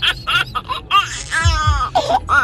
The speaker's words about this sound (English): You love children laughing.